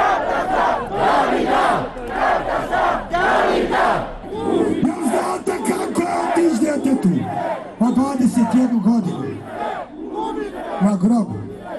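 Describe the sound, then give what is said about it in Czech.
A large crowd of protesters in Banja Luka and Sarajevo chants in rhythmic unison, loud, the rising and falling voices repeating a steady slogan-like cadence, with bursts of collective shouting, demanding the truth about the deaths of David Dragičević and Dženan Memić. “Više hiljada građana Banja Luki i Sarajeva je sa odvojenih protesta zahtevalo od BH vlasti utvrđivanje istine o okolnostima smrti dvojice mladića, Davida Dragičevića i Dženana Memića.”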